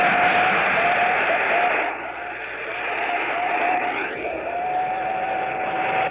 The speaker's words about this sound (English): Here's the raw CW.